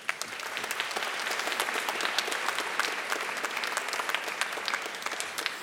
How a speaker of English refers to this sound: As we celebrate the enormous accomplishments of our graduates, we celebrate as well all who helped to make such accomplishments possible. So a well-earned round of applause.